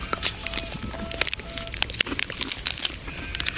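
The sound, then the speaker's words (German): Dense, continuous crinkling of a chocolate wrapper, full of sharp crackles and brittle snaps in an irregular rhythm, fairly loud, with a few faint tonal squeaks in between and no voices. “Ich brauche ein Stück Schokolade.”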